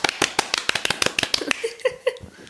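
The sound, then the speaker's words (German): A quick, uneven burst of hand clapping by listeners clapping along, sharp claps tumbling over each other for a couple of seconds, with a few brief voiced sounds mixed in toward the end. “Egal, wo ihr das jetzt hört, wenn ihr irgendwie die Möglichkeit habt, das heißt, egal wer das sieht, nur solange ihr halt euch nicht in Gefahr bringt, solltet ihr mit klatschen.”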